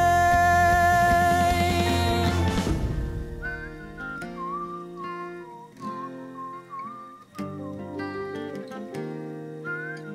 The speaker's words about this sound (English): Whistling time. Oh my god, I got so much timing off in the middle part. It's so bad.